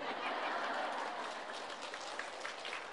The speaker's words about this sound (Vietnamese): Chiều nay chắc có lẽ là những tràng pháo tay của đạo tràng Phật tử cũng đã thay thế cho sứ ngôn viên trong cái buổi giới thiệu cũng như là cung thỉnh pháp thoại của thầy.